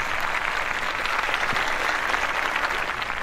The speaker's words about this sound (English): Well, I've never even gotten that kind of intro before with the applause.